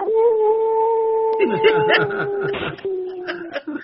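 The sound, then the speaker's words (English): A person imitates a baby howl with one long, steady, high wail held for several seconds while other voices chatter over the second half. “Give us a baby howl on your way out.”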